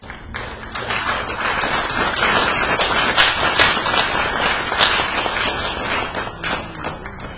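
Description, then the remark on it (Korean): A crowd at a group meeting applauds steadily for several seconds to welcome a speaker to the front, a dense patter of many hands clapping at a fairly even, loud level before it thins out toward the end. “나와서 우리 박수로 환영합시다.”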